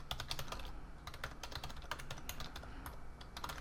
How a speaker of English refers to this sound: it's as easy as clicking on the share icon up here in the top right-hand corner and then typing in the email addresses of the people that I'd like to share with. So for example, I could type in email addresses of people outside of my organization.